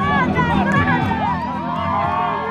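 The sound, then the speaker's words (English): An exuberant crowd at a Matteo Salvini political rally in Italy cheers and shouts as he makes his entrance, many overlapping voices forming a loud, steady roar of excited calls that barely dips over a couple of seconds. “He moves through the exuberant crowd, shaking hands, pausing for selfies.”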